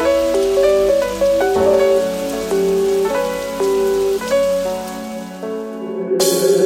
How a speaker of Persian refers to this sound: بیا پایین چه بارونی داره میاد.